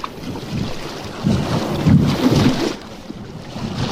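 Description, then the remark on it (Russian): Choppy water of the Bratsk reservoir (the Bratsk Sea) at Bratsk slaps and sloshes in irregular surges while steady wind buffets the microphone, a broad rough outdoor wash with no voices. “Братское море. Вот, послушайте.”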